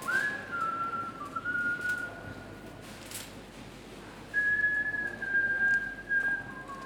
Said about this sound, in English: It's a guy in the next aisle. What he is whistling is Schubert's Piano Trio No. 2.